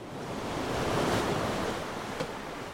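Steady wash of ocean waves on the open sea, heard from a sailboat in the middle of the sea, with broad surging noise swelling slightly toward the middle, a gusty wind-like hiss and no voices.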